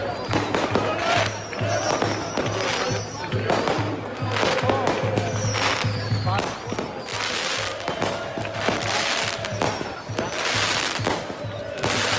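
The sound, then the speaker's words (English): Fireworks crackle and pop continuously along a street, dense bursts of bangs and fizzing one after another, with people's voices faintly mixed into the loud outdoor din. “Fireworks, baby, up and down the street.”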